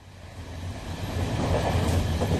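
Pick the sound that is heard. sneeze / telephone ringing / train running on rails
train running on rails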